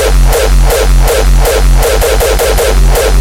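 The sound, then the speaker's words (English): Harsh, heavily distorted digital sound, loud and saturated throughout, with a steady low drone broken by crackling bursts pulsing about three times a second. No voices. “And if pushed to the extremes, creating a digitally distorted sound.”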